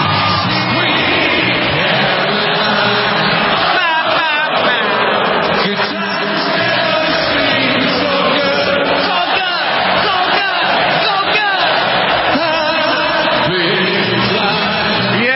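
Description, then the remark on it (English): A huge stadium crowd at Fenway Park in Boston sings along with a singer performing in person, a loud, continuous roar of massed voices, with whoops and cheers breaking through for the full fifteen seconds. “And at age 72, he sounded more like he's still 32 as he led the crowd in a sing-along no one will soon forget.”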